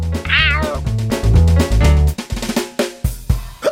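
A single cat meow rises and falls near the start, riding over bouncy background music with a steady low beat that carries on after the meow ends.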